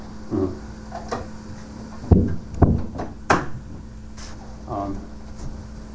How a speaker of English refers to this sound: When you close that door, make sure you close it for real.